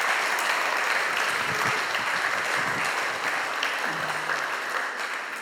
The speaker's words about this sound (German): Ein Dankeschön an unsere Kids Church für die investierte Zeit, für die investierten Kräfte und für die Vision, dass unsere Kids ein Glaubensfundament erhalten. An dieser Stelle ein Applaus für alle, die engagiert sind in diesem Bereich.